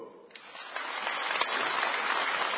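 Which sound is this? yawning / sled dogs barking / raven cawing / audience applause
audience applause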